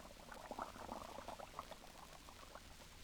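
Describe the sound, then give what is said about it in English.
Water running into a dishpan of Lux Flakes soap, with a dense, fizzy crackle of frothing suds bubbles popping steadily for a few seconds, no voices. “Then you turn on the water. And almost at once, the flakes melt into a soft, frothy mass of bubbles. Listen to them.”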